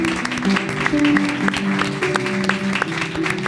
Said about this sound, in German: Applaus auch.